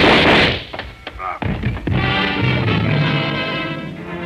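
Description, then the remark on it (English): A quick burst of rapid-fire 30-caliber gunshots fired at a man, several sharp bangs in close succession following a loud rushing blast, then a steady humming drone carries on. “The shock of the rapid-fire 30-caliber slugs lifted him off his feet and knocked him against me.”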